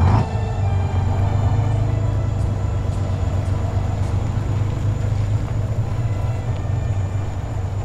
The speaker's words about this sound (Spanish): Vámonos, soldados. Rápido, camión en marcha.